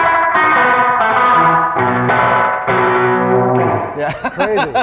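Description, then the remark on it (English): A thick, effected instrumental passage of sustained chords with echo-tape delay repeats smearing each change, ending in a wobbling, swirling tail of feedback-like delay. Loud, with no talking. “But for this, just for a change of pace, I switched to their this Bell Epic, like which is more of like more of an echo tape. Echo.”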